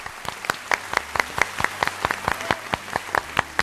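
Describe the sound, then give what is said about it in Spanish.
A steady patter of claps, irregular but continuous, like a small audience applauding at moderate volume, with no voices over it. “Oye, el aplauso del día lo podemos poner”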